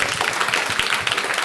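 Steady audience applause, many hands clapping at once in a dense, even patter that stays loud and close throughout the short stretch, with no voices standing out.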